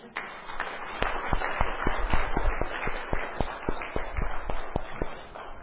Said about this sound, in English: If you are with me, we can clap our hand for Jesus.